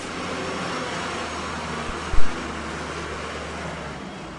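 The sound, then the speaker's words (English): A steady, heavy rumble of 120 dump trucks rolling along a road, carting debris away from Ground Zero; a continuous low engine drone with one brief thud partway through and no voices. “120 dump trucks cart debris away from Ground Zero.”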